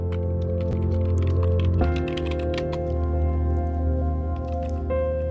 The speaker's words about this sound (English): Normally you hear that typing on Vancouver FM, one of my other shows that I do.